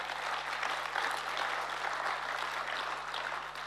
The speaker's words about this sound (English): Come on, if you're going to give the Lord a clap, give him a clap.